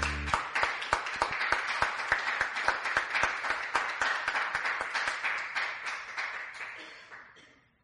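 A crowd claps loudly and steadily in answer to a call to give the Lord a cheer, with sharp regular beats standing out above the dense applause, which then fades away over the last couple of seconds.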